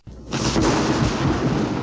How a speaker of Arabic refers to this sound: الرعد هو مجرد صوت تسمعه قادما بسرعة شديدة من السماء. ولكن يا ماما، لماذا هكذا يكون صوته مخيفا؟